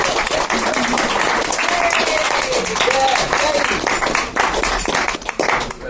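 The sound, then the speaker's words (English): Sustained, dense applause from a crowd for an audience member invited to join in a song, steady and loud, with a few voices calling out faintly beneath the clapping. “Come on, give him a round of applause!”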